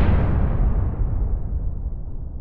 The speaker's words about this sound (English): I always love the explosions there.